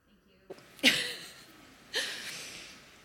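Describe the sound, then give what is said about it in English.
Someone blows their nose twice, each a short, breathy, hissing burst about a second apart, with quiet background in between. “I really need to blow my nose.”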